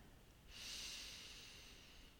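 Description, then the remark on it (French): A slow, deep breath drawn in through the nose begins after a brief pause and stays soft and airy for nearly two seconds, quiet, with no talking. “J'inspire.”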